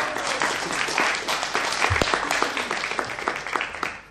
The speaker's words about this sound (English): Can you give yourselves a clap?